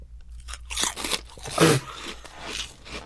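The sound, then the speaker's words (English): Crisp shrimp-flavored chips crunching between teeth in a run of sharp, crackling bites, loudest in a burst midway, with softer chewing crackles continuing after; no one speaks. “Let's start with shrimp. Okay, chip cheers with the shrimp piece.”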